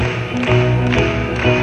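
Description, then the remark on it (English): A crowd claps in unison, steady beats about every half second, sharp bursts rising over a sustained musical backing with no voices. “Clap along. Come on, let's hear you.”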